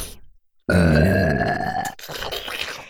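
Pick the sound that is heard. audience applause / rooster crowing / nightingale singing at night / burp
burp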